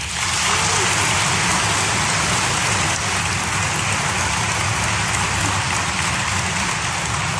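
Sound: applause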